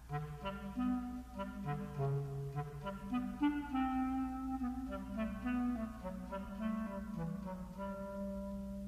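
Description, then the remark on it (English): A clarinet plays the part of the cat in Peter and the Wolf: a smooth, flowing melody in its low-to-middle register, notes gliding up and down at a steady, moderate loudness over a soft sustained low accompaniment, with no voices. “A clarinet plays the part of the cat.”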